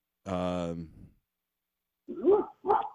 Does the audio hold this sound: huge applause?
no